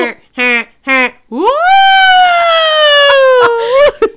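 A voice imitates emergency sirens going down Tremont Street in Boston at rush hour: three short whoops, then a long rising wail that holds steady before dropping off. It is loud, with no traffic noise around it.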